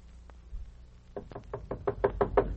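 A rapid run of about eight knocks on a door, evenly spaced and growing slightly louder, after a quiet moment with a faint low hum. No voices are heard.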